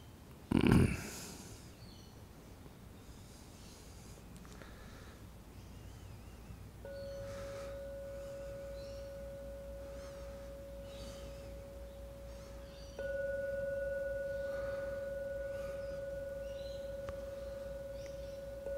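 A gong is struck three times, several seconds apart, to end a meditation. The first hit is sharp and loud, and the later strikes leave a steady, ringing mid-pitched tone that lingers. No one speaks.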